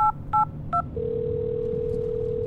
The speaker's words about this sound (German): Sie greift zu ihrem Handy und wählt die Nummer der Polizei.